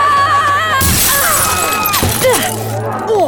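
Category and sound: sound effect, window glass shattering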